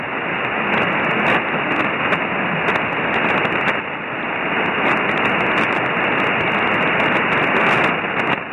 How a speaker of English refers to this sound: Yeah, we're getting a little bit of static crashes here periodically, but we're doing all right, I guess.